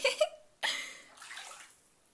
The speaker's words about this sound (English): Oh my goodness, I can't believe you're making me get in this bubble bath.